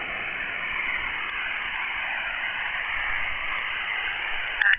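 Steady, even radio static hisses throughout as a radio station's signal fades down to the noise level, with no voice coming through, ending in a brief crackle.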